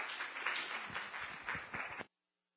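A church audience claps together in a steady burst of applause lasting about two seconds, dense and fairly loud, for a speaker coming forward, then it cuts off abruptly into silence.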